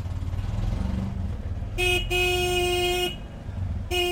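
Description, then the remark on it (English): A motorized rickshaw carrying two sisters rides through traffic, its small engine rumbling steadily while horns blare: a short toot, a long sustained honk, then another honk starting at the end. “To get here, the sisters take a bus to a motorized rickshaw.”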